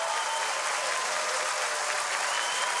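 An audience applauds two singers steadily after an a cappella performance, a dense, continuous wash of many hands clapping at an even level throughout, with no talking heard over it.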